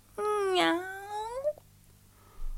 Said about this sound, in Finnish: Kun se tuli meidän kohdallemme, se taivutti päätään ja naukaisi.